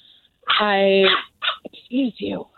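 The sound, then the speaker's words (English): A two-month-old female puppy lets out a drawn-out, high whining cry, followed by a few short, choppy yips and whimpers, fairly loud. “Is that a dog? Yeah, it's a puppy. Okay. She's a 2-month-old puppy.”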